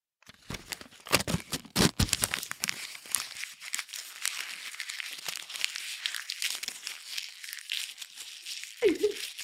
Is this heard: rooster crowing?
no